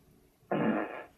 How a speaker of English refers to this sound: You can just tell her to fart and she will. Right. On command. Right. You just say, Alexa, fart.